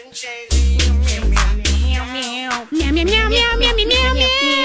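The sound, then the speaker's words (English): A voice sings a song's melody entirely in repeated meow sounds, imitating a cat. The notes are loud, some held and sliding in pitch, in a steady rhythmic run. “I wasn't meowing in the right key.”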